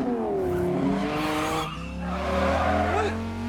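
A woman spins a red sports car with loud, sustained tire squeals and skidding over a revving engine, the screech shifting in pitch as it turns, continuous throughout, as she swings it to scoop a man into the passenger seat before an oncoming delivery truck races by.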